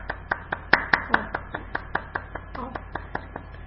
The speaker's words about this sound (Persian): آفرین. خودتون رو تشویق کنید.